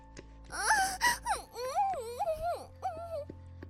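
A woman's high, drawn-out moaning during sex, several long wavering cries with rising and falling pitch, fairly loud, run together with brief breaks and no other voices.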